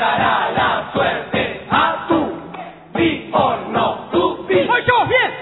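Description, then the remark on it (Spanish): A crowd at a carnival murga performance claps in a steady rhythm while voices shout and cheer over the beat, loud, with rising whoops near the end. “Cuando llega el carnaval, haciendo palmas y dando un grito.”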